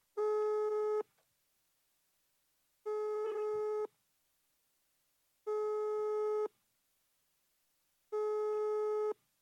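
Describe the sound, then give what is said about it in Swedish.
A telephone ringing tone from a call placed to Thomas Ivarsson repeats four times in steady, evenly spaced bursts of about a second each, clear and alone with silence between rings and no answer. “Vi ringer Thomas.”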